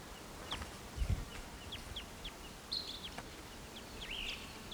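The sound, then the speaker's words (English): A western wood peewee calls softly: scattered thin, high chirps and two burry, downslurred whistled notes over a faint low rumble, with no talking. “Okay, I just recorded that bird, so he's still calling a little bit.”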